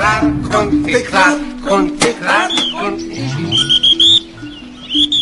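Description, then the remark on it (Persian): Radio announcer and actor Manouchehr Azari, a guest on the program Park-e Shahr, whistles an imitation of nightingale song: rapid warbling trills and bright, fluttering high notes that break into short chirps near the end, fairly loud over a low background hum. “چون مردم نیاز به شادی دارن، براشون سوت بلبلی زدم.”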